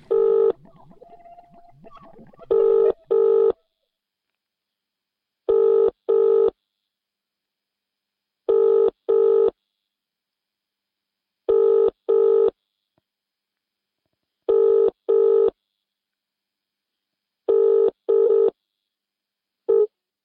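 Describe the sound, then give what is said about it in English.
A telephone call rings out with a double-burst ringing tone, repeating steadily about every three seconds, seven times, loud and clear with no voices, after a brief scratchy noise at the start, before a voicemail answers. “I'm sorry, but the person you've called is not available.”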